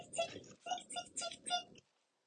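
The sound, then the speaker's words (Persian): A voice mimics a chick tapping at its eggshell from inside as it hatches, repeating a quick ticking 'tik' syllable about six times in an even rhythm before falling silent. “صدای تیک تیک تیک تیک تیک تیک تیک تیک تیک تیک.”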